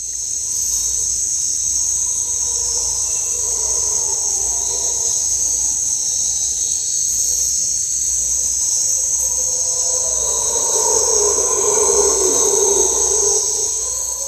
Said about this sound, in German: Da waren nämlich, nicht erschrecken, es sind keine Ungeheuer im Wald, sondern es sind Brüllaffen, die sehr, sehr laut sind. Ich wusste nicht, wie laut die sein können und wie die klingen, aber ihr hört es jetzt gleich.